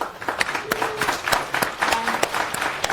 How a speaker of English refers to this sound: So, a round of applause